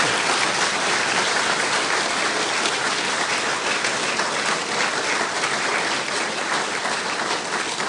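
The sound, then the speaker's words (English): An audience at a Commonwealth Club of California event applauds the panelists steadily for the full eight seconds, a dense, even wash of many hands with no voices rising above it and no break in the applause. “Please applaud the panelists.”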